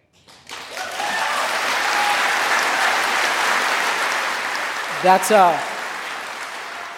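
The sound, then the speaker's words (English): Sustained audience applause at Mars Hill church, a dense steady wash of clapping that swells quickly and holds for several seconds, with a brief voice cutting in near the end. “That wasn't a pause for clap.”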